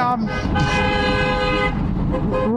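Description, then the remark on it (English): A truck passes by on the street, its loud, sustained horn-like blare and low engine rumble filling the whole moment before easing off slightly at the end. “It's a truck going by.”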